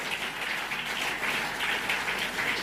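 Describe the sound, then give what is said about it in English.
A church audience claps their hands in praise of God, a dense, steady burst of applause, many overlapping claps forming a bright, continuous patter that holds at an even loudness throughout, with no voices. “Clap your hands if He's blessing you already.”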